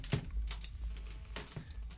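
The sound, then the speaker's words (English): A series of sharp, clacky button presses in an uneven rhythm, fairly loud, as someone punches in an American phone number on a hard keypad to call the Dial a Carol line. “Loudest dialing ever.”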